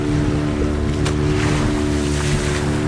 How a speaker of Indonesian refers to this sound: Fajar merekah di kawasan Pantai Lovina, Buleleng, Bali, ketika ratusan wisatawan asing dan lokal berdiri di bibir pantai menanti jukung atau perahu motor yang akan membawa mereka menyaksikan lumba-lumba sekitar 2 km jauhnya dari pantai.